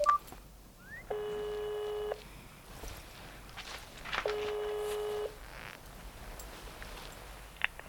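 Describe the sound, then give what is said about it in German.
Mobile phone dialing tones play over a speakerphone as a man calls a doctor: two steady, slightly buzzy tones, each about a second long, separated by a pause, with faint rustling and footsteps in the background. “Herrchen will ja nur mit dem Handy den lieben Onkel Doktor anrufen. Ich drücke auf die Lautsprechertaste.”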